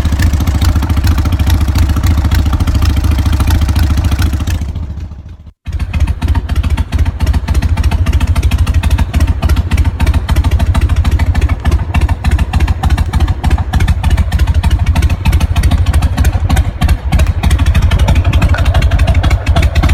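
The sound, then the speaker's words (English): A 2003 Harley-Davidson XL 1200 cc motorcycle, a 100th anniversary edition, idles loudly with a rapid, uneven loping rumble and no revving. It drops out briefly around five seconds, then resumes its steady throbbing idle, with no talking. “You're listening to a 2003 Harley-Davidson XL 1200 cc's.”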